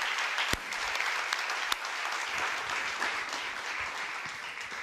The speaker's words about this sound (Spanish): Quiero que lo reciban con un fuerte aplauso.